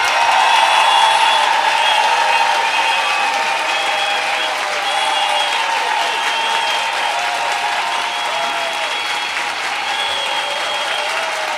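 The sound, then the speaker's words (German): An audience claps steadily and loudly for about twelve seconds as a vote for a performer to be the evening's winner, a dense, continuous wash of many hands with a faint undertone of crowd noise and no break in the rhythm. “dann bitte jetzt applaudieren.”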